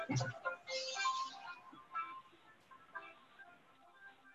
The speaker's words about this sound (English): Somebody's phone is ringing.